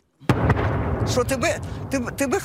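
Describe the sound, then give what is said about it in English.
A sudden heavy blast and a second sharp thump, followed by a low, lingering rumble of shelling, while people talk over the rumbling aftermath. “described explosions through the night, sending shards of glass flying”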